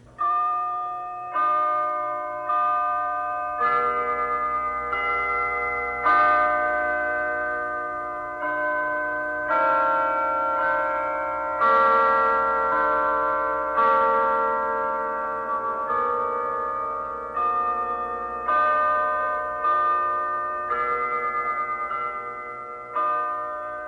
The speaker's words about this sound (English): And the last one this morning is the sound of the church bells that many people love, and there are a lot of them in our city, and they go like this.